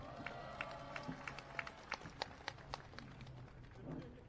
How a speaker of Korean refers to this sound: 큰 박수 함성 부탁드립니다.